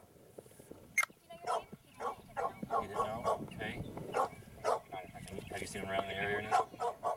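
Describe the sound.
A dog barks repeatedly in sharp bursts, some higher yips mixed in, while a person talks underneath and a brief whine rises near the end.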